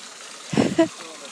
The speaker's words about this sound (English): We're standing over the duck ponds now. There's like a wooden bridge and there's a waterfall. One behind me, one in front.